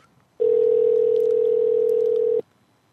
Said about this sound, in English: Go ahead and get him on the horn. It's ringing.